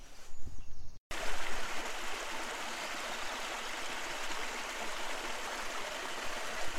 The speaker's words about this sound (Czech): A pokud budete šikovní a půjdete stejně jako my, tak možná naleznete i místní vodopád. On je to takovej vodopádeček. A teďko moc nepršelo, tak to bude čůrek.